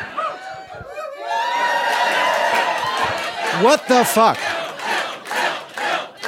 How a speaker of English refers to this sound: They're terrible at cheering.